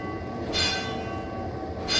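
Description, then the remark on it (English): A ship's signal bell aboard the USS Olympia, a historic Navy vessel that used bells for communication, rings with two sharp strikes about a second and a half apart, each leaving a sustained metallic ring over a steady low rumble. “So there were various complex systems to describe what a bell was telling you, and there were different size bells that made different noises, and that was the emergency backup.”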